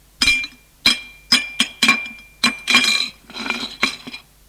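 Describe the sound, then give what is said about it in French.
A serving utensil clinks against a plate about ten times in quick, irregular succession, with a softer scraping stretch near the end as a good portion of meat in wine sauce is dished out of a casserole pot onto the plate. “Mets dans l'assiette une bonne part de viande en sauce.”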